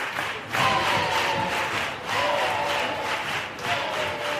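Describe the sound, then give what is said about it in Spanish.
The audience of the Gran Teatro Falla claps and cheers to receive a comparsa before the curtain opens. It is a steady, loud roar that swells in waves about every second and a half, with shouting voices rising over the clapping. “recibe a esta agrupación con esas palmas antes de abrir telón.”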